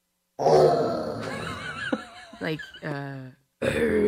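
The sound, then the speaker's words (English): A person imitates a lion's roar: a loud, gravelly growl that breaks into pulsing, throaty rumbles, then a brief pause before another rough vocal burst at the end. “Okay, can you do a lion roar?”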